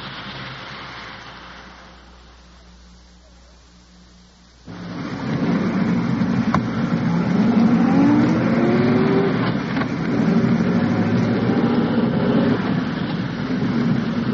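The engine of an undercover police car carrying detectives hums low and steady, then suddenly swells into a loud, continuous rumble with rising and falling revs as the car drives on. No one speaks.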